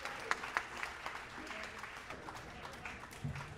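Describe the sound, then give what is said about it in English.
A crowd applauds with steady, dense clapping that holds at an even level throughout, a few sharper claps standing out near the start and faint murmurs underneath. “Thank you for dancing. Yay. And clapping.”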